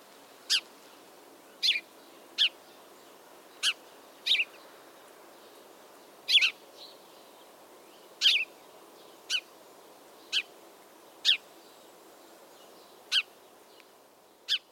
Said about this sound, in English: Some field guides or other publications describe this song as chirp, chirp, cheerip, or cheer up. All of those could work. I mean, have a listen to these sparrows and decide how you would spell their songs as written words.